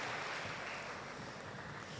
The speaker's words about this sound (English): Now give her a big clap because she's nervous.